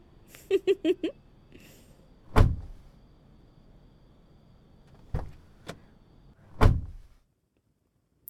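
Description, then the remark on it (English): Inside a car, someone crawls in: a few quick tonal blips, then heavy shuffling thuds and several solid door-like thunks spaced over a few seconds. “Oh, this car is nice. I hope I don't throw up in it. Hang on. I'm crawling in. Don't shut the door, my little fingies.”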